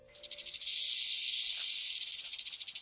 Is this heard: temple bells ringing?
no